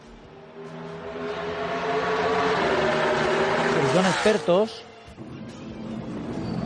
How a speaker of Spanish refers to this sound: No es un Fórmula 1. Son unos grillos, ¿no? Suenan, Está saliendo. Es un NASCAR, ¿vale? Fernando Alonso esta mañana se ha cambiado los papeles con Jimmy Johnson, que es un piloto de la NASCAR, para probar el coche del otro en el circuito de Bahrein.